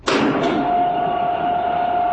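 Large metal panels on the sides of a ship clank open: two heavy thuds in quick succession, then a loud, steady rushing rumble with a sustained mid-pitched hum running underneath.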